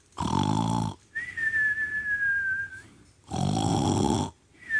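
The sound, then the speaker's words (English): A voice imitates snoring in a cartoonish way: two loud, raspy snorts separated by a long, thin whistle, like an exaggerated inhale-and-whistle snore, with no talking. “And he's just snoring. He's just snoring away.”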